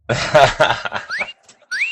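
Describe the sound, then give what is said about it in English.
A toy monkey's electronic wolf whistle: two bright, rising whistle sweeps, fairly loud, after a brief burst of scratchy, chattering toy noise. “Yeah, and the other one whistles like you're hot.”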